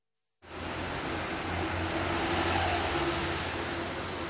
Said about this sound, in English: The rush of afternoon traffic along the street that's known as Rohanské nábřeží, or Rohanský Island Embankment. Only this isn't really an embankment. There's no water here, and no island.